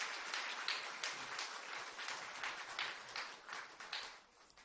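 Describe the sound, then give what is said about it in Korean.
Steady audience applause at an Isaac Bible College (이삭성경대학) graduation ceremony, congratulating a graduate receiving a diploma: a dense patter of many hands clapping at once that holds evenly for a few seconds and then thins out and fades toward the end. No voices are heard. “모두 박수로 축하해 주시기 바랍니다.”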